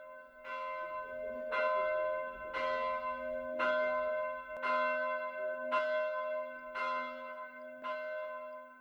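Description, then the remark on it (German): A church bell tolls steadily, about eight evenly spaced strikes roughly a second apart, each ringing out with a rich, sustained hum that overlaps the next. Loud and clear, with no voices. “Ein Glockenklang erschallt in seinen Ohren.”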